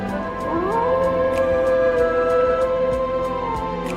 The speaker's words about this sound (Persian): این زوزه